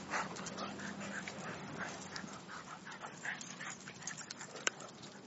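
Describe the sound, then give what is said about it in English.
Dogs barking and panting, a fairly quiet run of breathy, repeated bursts over a few seconds, with one sharp click near the end and no talking. “Sorry, my dogs are barking.”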